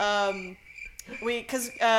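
A cricket chirping sound effect plays loudly, its tones broken into a few bursts with short gaps over about two seconds, with no talking.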